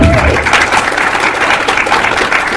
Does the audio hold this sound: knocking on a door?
no